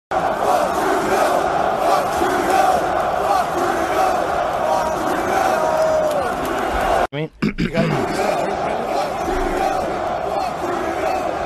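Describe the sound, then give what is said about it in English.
A huge Canadian arena crowd at a UFC championship fight chants "fuck Trudeau" in unison, a loud, dense roar of many voices with a rhythmic cadence; it cuts out briefly for a moment before the chanting swells back in. “Listen to what the Canadian audience at the UFC Championship fight were chanting.”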